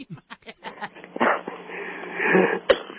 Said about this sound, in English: You got a cough?